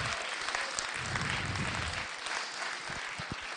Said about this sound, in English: Give him a round of applause if you want to. That's awesome, isn't it?